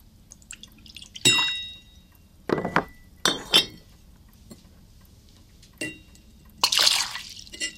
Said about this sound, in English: Cecil watches Lucy as she gets up from her seat and pours a drink from a glass decanter.